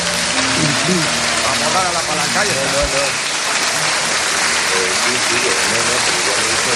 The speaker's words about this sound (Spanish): Mira la gente aplaudiendo y todo, claro. Sí, es que no me extraña nada. Ahora, el aplauso se lo merece Telefónica.